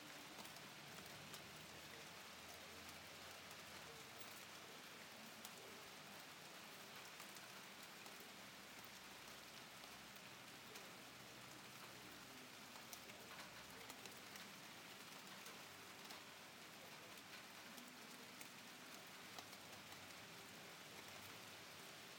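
Steady rain falls continuously, a dense, even hiss of drops pattering on a surface throughout, with no voices and no pauses.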